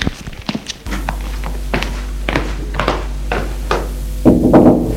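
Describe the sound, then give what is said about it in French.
A secretary knocks several dull knocks on the door of the office of the Primate of the Gauls, spaced unevenly over a low steady hum, followed by a brief rustling shuffle at the end. No one speaks. “Le secrétaire va frapper à la porte.”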